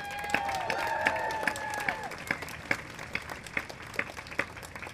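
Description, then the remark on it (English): A crowd that came out to stand up for their rights bursts into applause, dense clapping mixed with a few whistles and cheers at the start, then thinning into scattered individual claps. “So I think we owe you a round of applause right now.”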